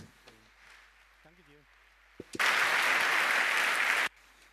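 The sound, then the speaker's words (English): A brief burst of voices gives way to loud, dense audience applause welcoming a speaker; it starts abruptly, holds steady for under two seconds, and then cuts off sharply. “and we'd like a round of applause, please.”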